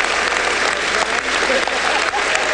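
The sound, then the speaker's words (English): Loud, sustained applause from a large crowd fills the House chamber, a dense, steady roar of clapping hands with no breaks. “By the way, as I was listening to all this applause yesterday, I was thinking, at some point, like, he must have gotten exhausted by all of the applause.”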